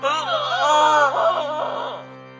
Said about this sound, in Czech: Proboha, to ne! Je slyšet ustrašený hlas. Následují dva srdcerivné výkřiky.